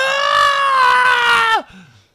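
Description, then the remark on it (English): A single voice imitates a hysterical scream: a loud, high, sustained shriek held for about a second and a half before its pitch drops away, followed by a faint low trailing sound. “They have been conditioned to erupt into hysterical screaming.”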